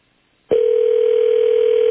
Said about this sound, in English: Yes. The brunette hotline has gone off.